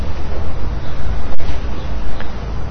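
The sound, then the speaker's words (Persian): A loud, steady roar of stormy weather with waves surging and crashing, full and rumbling throughout, with no voices over it, standing for the storm of Noah's flood. “خیلی خوب، همه این چیزا شد، نوح کشتیشو ساخت، طوفان شروع شد.”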